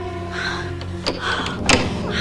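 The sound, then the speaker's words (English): Three servants try a house door from the outside, producing two sharp clunks of the handle and latch about half a second apart over a steady low background hum. “They try the door.”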